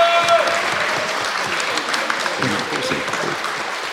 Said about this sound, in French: Et merci à toutes les équipes, les gens qui sont tout là-bas. Vous pouvez les applaudir s'il vous plaît.